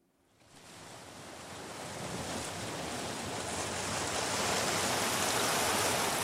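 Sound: ocean waves washing ashore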